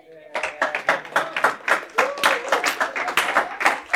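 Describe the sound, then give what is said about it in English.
An audience claps their hands in a steady burst of applause lasting several seconds, the sharp claps blending into a lively, continuous patter with no voices over it. “Just give them a hand clap if you would.”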